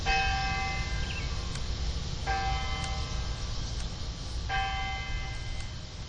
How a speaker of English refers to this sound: Darlington in Lafayette County is one of the communities along the 47 miles of Cheese Country Trail. It's the county seat, and trail users can hear the historic courthouse when its clock tower chimes.